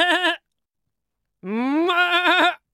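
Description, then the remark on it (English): Two loud goat bleats: a short quavering one, a pause, then a longer wavering bleat that rises in pitch before breaking off. “A goat needs about 2 to 4 pounds of hay per day.”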